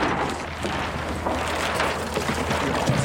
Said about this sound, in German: Damit das klappt, heißt es erstmal trainieren und dafür gehen wir jetzt raus aufs Wasser. Wir schieben mein Boot von der Rampe ins Wasser.